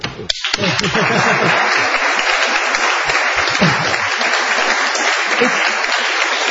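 An audience breaks into loud, sustained applause, a dense wash of many hands clapping that holds steady throughout, with a brief voice at the very start.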